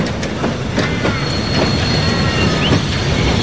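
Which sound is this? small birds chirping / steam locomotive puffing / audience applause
steam locomotive puffing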